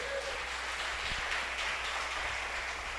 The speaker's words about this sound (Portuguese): Dê uma salva de palmas para o nosso Senhor.